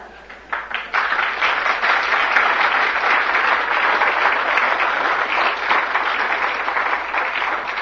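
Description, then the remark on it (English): Sustained audience applause as a man is presented with a memento, a dense wash of many hands clapping that swells in after a brief start and stays loud and steady throughout, with no voices standing out. “I'm sure by the applause and everything that everyone wants you to have this”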